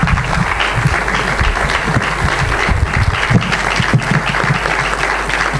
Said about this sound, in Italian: Non si interrompe un'emozione, quindi l'applauso l'abbiamo lasciato a fine.